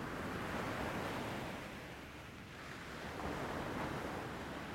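Ocean waves break steadily on a beach, a full, hissing roar of surf that eases briefly midway before swelling again, with no voices present.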